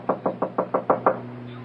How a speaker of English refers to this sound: Didn't you hear me knock?